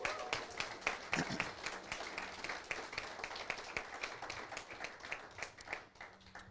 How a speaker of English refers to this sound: And I just wonder if we could start with a round of applause for these guys.